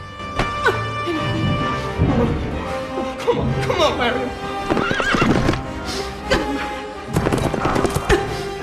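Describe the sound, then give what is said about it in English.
Horses gallop in a fast, steady clip-clop of hooves as Pitts rides after Robin, broken by loud, high whinnying neighs that rise and fall over the drumming beat. “Riding after Robin, Pitts leaves a trail of bandages in his wake.”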